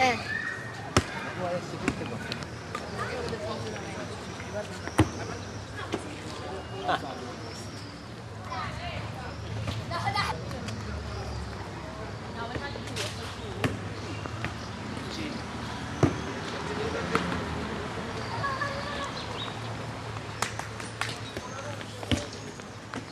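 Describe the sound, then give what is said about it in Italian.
A ball thrown hard bounces again and again at irregular intervals, each sharp thud ringing out over a busy background of indistinct voices. “Quando tu tiri il pallone forte si sente quel il suono.”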